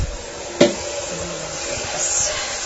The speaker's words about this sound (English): I hope the sound quality isn't too bad in the bathroom with the water that will be running.